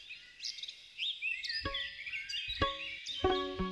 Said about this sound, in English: mic up a bunch of trees and bushes where he knew songbirds liked to sing at dawn